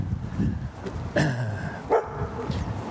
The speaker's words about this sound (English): Oh, here's a dog. It's a giant puppy. Hey, dog. How you doing? Hi. He thinks he's a killer.